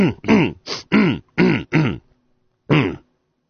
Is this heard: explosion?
no